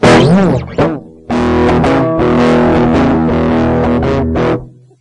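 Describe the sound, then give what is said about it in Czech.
An electric guitar with a thick, slightly distorted tone plays a few strummed chords bathed in a large hall reverb, the notes blurring together and ringing out in a long wash before fading. “Tohle je takový hezký velký sál, ale je to strašně placatý všechno.”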